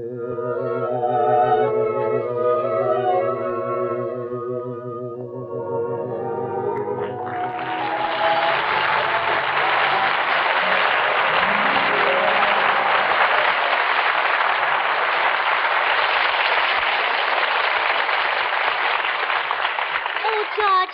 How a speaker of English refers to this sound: I heard all that applause outside. You killed them. They loved you, huh? Ah, that was for ….